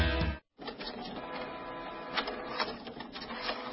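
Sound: inkjet printer printing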